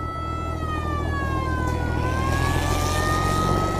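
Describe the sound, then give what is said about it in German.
A car drives steadily along a country road between Albuquerque and Santa Fe, its low engine rumble continuous, while a high, slowly wavering siren-like wail glides above it throughout. “Auf einer Autofahrt entlang einer Landstraße zwischen Albuquerque und Santa Fe beobachtet der 5-jährige Jim einen Autounfall.”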